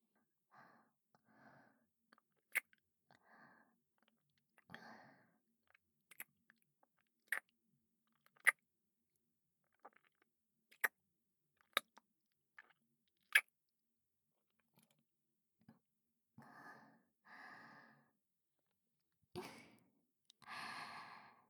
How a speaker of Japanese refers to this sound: キスをしている時のお姉さまの息遣い、私も胸が高鳴ってしまうわ。顔にかかる吐息も、鼻根をくすぐるお姉さまの匂いも、すべてが私を幸福感で満たしてくれる。